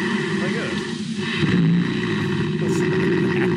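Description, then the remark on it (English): A bear snores under a house in a deep, continuous rumble, low and throaty like an idling engine, fairly loud, with a rough vibrating texture that swells slightly midway. “that's a bear snoring.”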